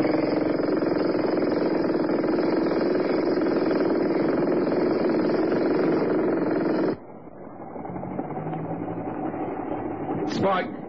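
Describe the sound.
A jackhammer operated by a worker new to it pounds away in a loud, rapid, unbroken mechanical rattle for about seven seconds, then cuts off abruptly, leaving a quieter murmur with voices.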